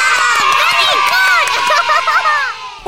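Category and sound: crowd, applause and cheering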